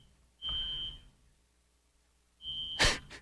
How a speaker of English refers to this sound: And then you hear the beeps. I love that. That's what I'm talking about, baby.